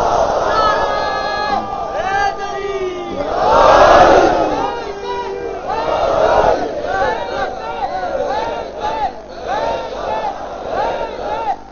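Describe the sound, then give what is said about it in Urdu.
A large crowd at a majlis gathering for Hussain shouts a slogan in unison, loud rhythmic bursts of many voices with a big swell midway, then repeated chanted phrases continuing in steady waves. “جب نعرہ لگایا تو سب مل کے لگایا کیجیے.”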